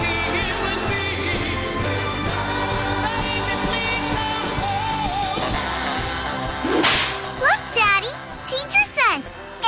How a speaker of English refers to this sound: A whip cracks, an angel gets his wings.